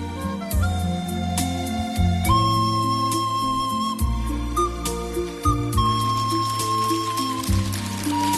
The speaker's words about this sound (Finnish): … -biisiähän siinä viheltää.